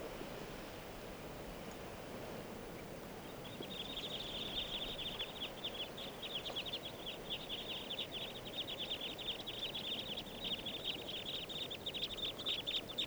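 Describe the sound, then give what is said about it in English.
A flock of about 30 type 2 birds sitting in lodgepole pine trees calls continuously, a dense chatter of quick, high chip notes that starts a few seconds in and keeps going over a steady hiss of background noise. “About 30 birds.”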